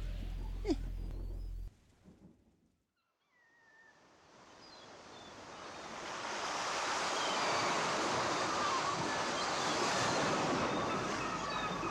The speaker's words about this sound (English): It's a beach!